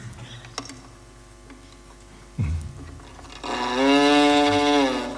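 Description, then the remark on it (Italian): A few soft clicks and taps, then a loud cow moo swells in and holds for nearly two seconds, a long, rich, droning call. “Ah, la mucca, fantastico.”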